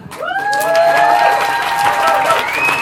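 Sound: audience applauding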